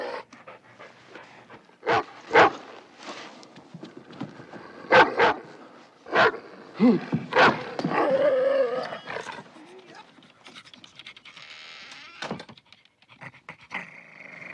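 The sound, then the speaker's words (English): A big dog barks loudly in irregular bursts of deep, gruff barks, with growling and heavy panting filling the gaps before a final bark near the end. “Yeah, and tell him about the dog. Well, it must have been the size of a water buffalo.”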